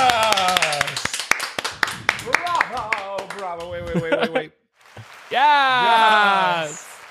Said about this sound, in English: Yeah, that was very nice. Claps. Because it is, you know, it's great. You know who also deserves claps?